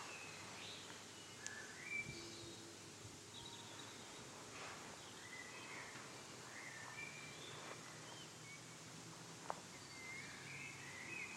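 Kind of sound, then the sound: bird, birdsong outdoors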